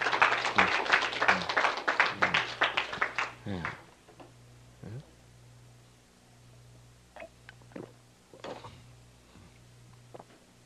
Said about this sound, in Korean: 자, 일단 박수 한번 쳐야죠. 예. 네.